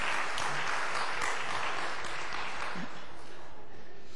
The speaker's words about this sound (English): I think we all need to give him a round of applause and say, glad to have you,